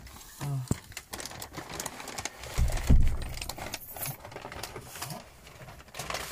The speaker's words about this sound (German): Einen Moment, jetzt kommt hier die Essenslieferung. Die andere mit Tüte. Das sind 3 Tüten. Oh.